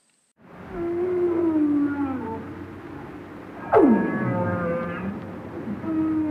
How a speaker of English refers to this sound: When I think of underwater sound, the first thing that comes to mind is the haunting calls of animals like the right whale that we're hearing now.